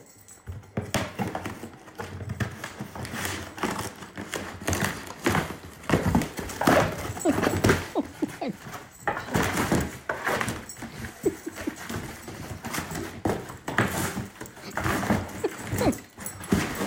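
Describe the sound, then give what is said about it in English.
A dog named Joy rips and shreds a cardboard box, with steady bursts of tearing, crumpling and scratching that continue busily throughout, with no one speaking. “Like, I can close my eyes and picture this happy dog, just absolutely tearing the box to shreds.”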